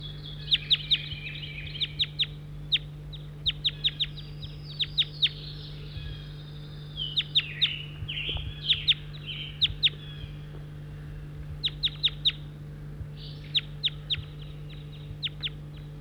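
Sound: birds calling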